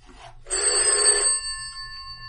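A single loud burst of a telephone bell ringing, a bright metallic jangle lasting about a second, then its tones hang and fade slowly over a low background hum. No one speaks.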